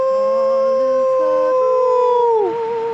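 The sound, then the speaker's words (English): A seal's long, wavering howl rings out loud on a reef at sea, holding a steady mournful tone for a few seconds before sliding downward at the end, with no talking. “The spellbound seals draw near.”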